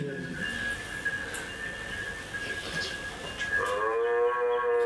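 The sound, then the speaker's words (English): A person imitates a cow's moo, trying to talk to cows: a brief low call at the start, then a long, loud, droning moo toward the end, with a steady high ringing tone running underneath throughout. “I think that's me imitating the cows trying to talk to them.”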